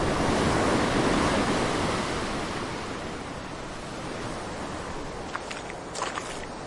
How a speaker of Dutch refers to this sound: Het waait en het is vloed en ik stap vanaf het strand de Noordzee in. Onder water klinkt dat lopen op die zanderige bodem heel anders.